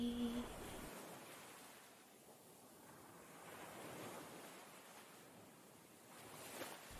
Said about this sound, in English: Oh, what's this? Did the waves actually bring me something nice this time?